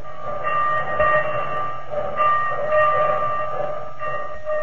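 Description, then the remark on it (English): A train sound effect in a radio commercial for the new Anti-Sneeze Rinso: a steady, chord-like whistle tone holds throughout over a rumbling, clattering rail noise, swelling slightly in loudness a few times, with no voices. “All aboard for easier wash days, whiter washes. You're on the right track when you use the new Anti-Sneeze Rinso.”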